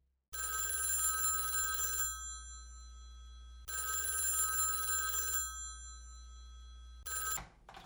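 A telephone rings loudly in long, steady bursts, two full rings separated by short pauses and a third cut off just after it starts. No one speaks.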